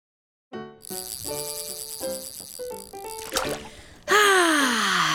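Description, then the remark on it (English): A short melodic musical phrase plays, then a loud burst of open-ocean water splashing takes over at the end, a bright, hissing wash with a falling tone through it. “Fishing out on the open ocean.”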